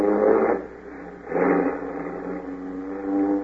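A car engine runs, revving up in two strong surges before settling into a steady, humming idle with a slight rise near the end. No one speaks.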